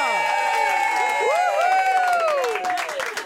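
A crowd cheers loudly and steadily for a couple, with many overlapping high whoops and shouts sliding up and down over a bed of clapping, holding strong for about three seconds before easing slightly.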